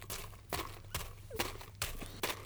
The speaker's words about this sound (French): Soudain, il entend des bruits de pas.